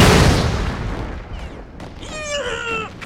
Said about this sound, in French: Rampant dans la boue, on entend des bombes exploser partout.